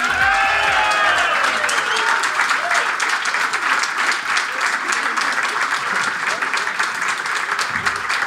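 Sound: standing ovation applause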